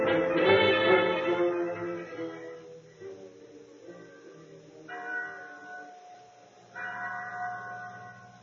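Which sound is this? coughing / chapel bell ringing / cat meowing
chapel bell ringing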